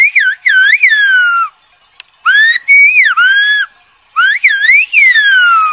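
Loud, piercing whistled phrases in the Silbo whistled language, a shepherd whistling 'good afternoon, I am from Alajeró', sweep up and down in pitch in three bursts separated by short silences, like speech-like melodies whistled across open space.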